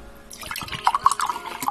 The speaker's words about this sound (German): Ach, und gießen. Natürlich muss gegossen werden. Sonst geht das natürlich nicht. Vorsichtig gießen, sonst verschlucken Sie die Person.